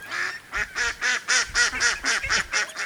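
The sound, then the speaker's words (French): Ducks quack at the edge of a pond in the east of an island, in a quick, steady series of about nine nasal calls, fairly loud, with faint outdoor background and no one talking. “Je m'installe au bord du bassin, très vite rejoint par des carpes et des canards.”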